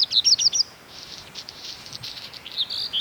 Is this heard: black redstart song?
yes